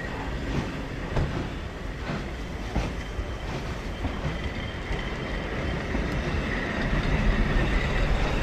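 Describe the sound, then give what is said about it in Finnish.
A train rolls steadily along the rails from Ahtiala toward Vierumäki, its loud continuous rumble punctuated by regular clickety-clack beats from the wheels passing over joints, growing slightly louder toward the end. “Junaa jatkaa taas Ahtialasta Vierumäkeä kohti.”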